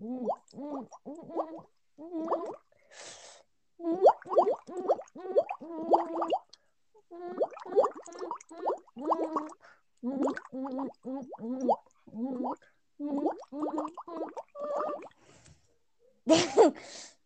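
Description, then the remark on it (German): The children's song "Alle meine Entchen" bubbled through a straw into water, a series of gurgling, pitched bubbly bursts in a rhythmic melodic pattern, with short pauses and a breathy hiss near the end. “Ja, mit einem Strohhalm alle meine Entchen gespielt.”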